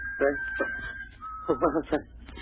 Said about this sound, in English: Must be. Sounds like a bird, maybe. Birds don't whistle like that. It's nothing. It must be nothing. We both hear it.